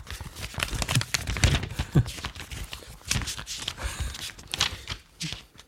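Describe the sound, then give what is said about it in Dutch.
Pages of a paper diary on a table being leafed through, a quick series of crisp rustles and soft flaps with small handling thumps, and no one talking. “Je papieren agenda ligt hier op tafel.”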